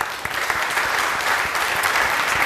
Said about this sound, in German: Großen Applaus bitte.